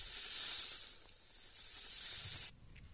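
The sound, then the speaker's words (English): A steady, airy snake hiss sound effect holds for about two and a half seconds, bright, then cuts off abruptly, leaving only a faint trailing hiss. “All right, let's snake it”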